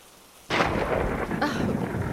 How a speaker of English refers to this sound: Ugh, this weather sucks. I hate storms. Huh? Close the window. No, leave it. It smells nice, I guess. What are you staring at? Never seen someone freak out over a thunderclap?